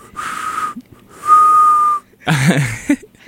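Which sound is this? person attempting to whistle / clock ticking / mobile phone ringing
person attempting to whistle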